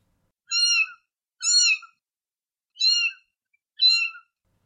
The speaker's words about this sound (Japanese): 子猫は救いを求めるような声で泣いた。